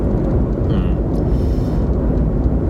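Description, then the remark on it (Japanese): A steady, loud low rumble of a car driving along a road, with engine and tyre noise droning continuously and no talking over it. “まあこれって例えば今ね、まあ、いつも通り車で走りながら録音してますけど、まあ、どこかに向かっているわけで”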